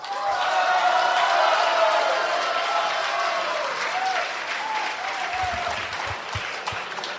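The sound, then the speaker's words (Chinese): A large audience applauds Guo Degang steadily and loudly for about seven seconds at a xiangsheng (crosstalk) performance of 'Fenhe Wan', a dense wash of clapping with faint cheering voices mixed in, easing slightly toward the end with a few dull thumps. “感谢您给郭德纲一个人的掌声，谢谢。”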